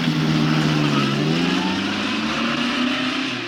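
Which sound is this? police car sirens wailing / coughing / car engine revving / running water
car engine revving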